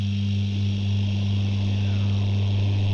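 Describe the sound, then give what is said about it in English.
A low, steady engine drone hums without pause, a deep tone with a faint wash of noise over it, sounding distant and never changing in loudness. “Somewhere in the distance, an engine hums, steady, ceaseless, moving something forward.”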